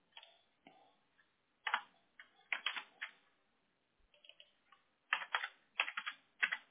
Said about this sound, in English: I just, when I start typing it in, it starts giving me these different suggestions, and I'm like, no, that's not it. It starts giving me, like, Murray as a suggestion.